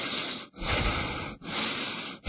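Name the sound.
heavy gasping breaths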